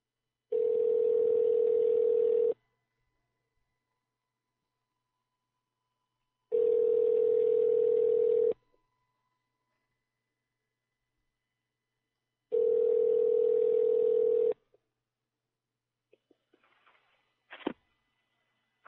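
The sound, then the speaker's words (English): A phone line's ringback tone while calling a cell phone sounds three times, each steady low-pitched burr lasting about two seconds and separated by long silences, followed by a few faint clicks and a sharp click as the line connects. “Calling. Well, fuck you. Try their cell phone.”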